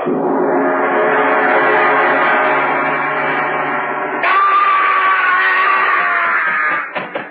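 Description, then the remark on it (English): A long, loud, sustained scream holds for several seconds, jumps to a higher, shriller pitch partway through, then breaks off abruptly. No one speaks. “I heard a scream.”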